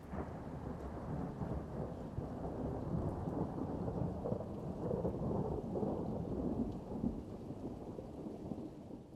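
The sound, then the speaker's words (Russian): Thunder strikes overhead on an island: a deep, muffled boom like an explosion rolls on steadily, heavy low rumble filling the whole stretch, with a faint hiss of rain underneath and no voices. “Вдруг сверху ударил гром. Уже не прошелся, глухо бабахнул взрывом.”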